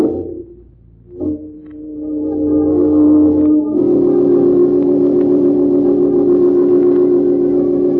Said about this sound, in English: See that car driving along the road over there? It's my getaway. When it reaches that pole, I break for it.